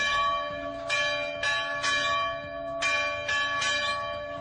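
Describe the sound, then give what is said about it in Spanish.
Christian church bells in villages near Mosul, Iraq, peal in a steady, overlapping rhythm, each bright strike ringing out with a long metallic hum beneath, clear with no voices. “Son las campanas de los cristianos que vuelven a sonar en los pueblos cercanos a Mosul.”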